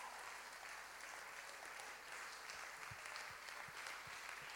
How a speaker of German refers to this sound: gebt ihr bitte einen tollen Applaus.